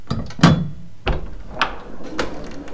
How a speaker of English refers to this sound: The door opens, and when it first opens, it's dark. And as the door opens, the light in the bathroom comes in. Oh, and then it closes.